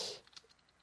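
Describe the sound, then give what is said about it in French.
Soft, quick clicks of typing on a computer keyboard, a brief burst followed by a handful of light, irregular key taps fading out. Quiet, with no voices. “Oh, j'arrive pas à taper sur ce clavier.”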